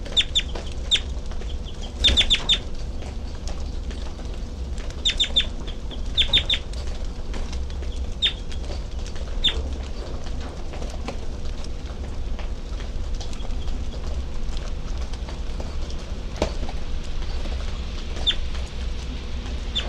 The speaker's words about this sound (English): That's 33. This is bird 33 now getting flight calls.